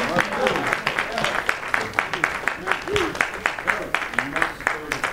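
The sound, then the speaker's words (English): An audience claps their hands in praise to the Lord, a dense, steady burst of many overlapping claps with rhythmic surges, while voices call out beneath the clapping throughout. “Give the Lord a hand clap of praise for overcoming.”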